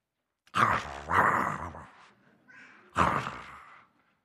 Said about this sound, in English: There were a few dogs coming after me.